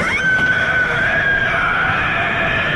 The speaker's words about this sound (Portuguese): Cara, é muito parecido um berro agudo bestial, assim, sabe? É verdade. O Bloodborne, eu não joguei assim, então eu não conheci o grito da criatura, mas ele tem uma vibe meio Lovecraftiana também.